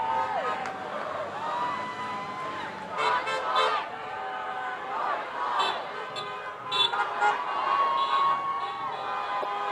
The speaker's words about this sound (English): That way the cars can stay over there, try to protect the protesters here. Cars are beeping in support.